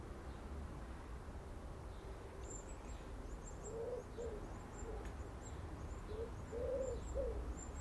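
A wood pigeon coos in two short bursts of soft, low, hollow notes over a steady background rumble on a late-July morning, while faint high chirps from small birds sound throughout.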